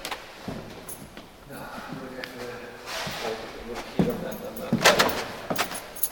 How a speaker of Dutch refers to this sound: Luikje openmaken. Moet ik even kijken, dan moet hier ergens een sleutelgat zitten. Ja, hier zit een sleutelgat.